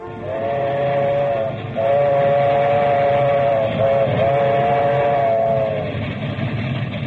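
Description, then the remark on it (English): A passenger train bound for Grand Central Station in New York rumbles steadily along the rails, loud, while a long whistle sounds in three sustained, nearly unbroken stretches over the clattering noise. No one speaks. “Well, Mamma Mia, any minute now, train is going to be in a Grand Central Station.”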